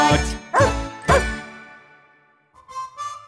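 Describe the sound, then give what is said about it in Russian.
A dog named Altai barks three times in quick, evenly spaced succession, each bark loud with a short ringing tail, followed by a quieter, tinkling melodic sound. “Я доктор Михаил Гаврилович, и мой пес Алтай рады встрече.”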